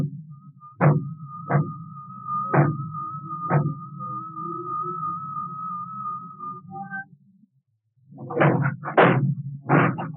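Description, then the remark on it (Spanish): Heavy blows strike a door again and again over a low rumble and a steady high whistling tone, then after a brief silence a rapid cluster of loud crashing impacts breaks through as the door is broken in. “¡Ha roto la puerta!”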